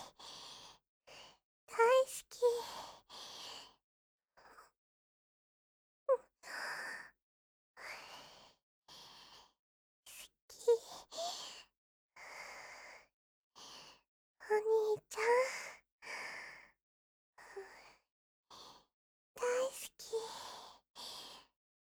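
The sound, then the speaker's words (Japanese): Heavy, rapid panting breaths in uneven bursts with short pauses, some catching into breathy voiced gasps and sighs. “お兄、はぁ、あ、はぁって、息遣いすごいよ。”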